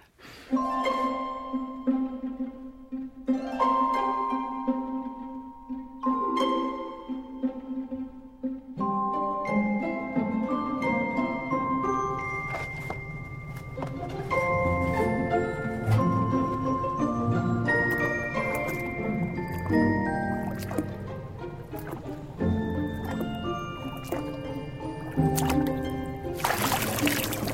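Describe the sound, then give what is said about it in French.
Human voices imitate ocean waves in the film Ponyo, during the first meeting of the boy Sosuke and Ponyo, layering sustained hums and breathy whooshes into a continuous, swelling wash of sound that grows denser and fuller partway through, without any actual water. “Écoutez cette première rencontre, écoutez le bruit des vagues qui, de toute évidence, est fait avec une voix humaine.”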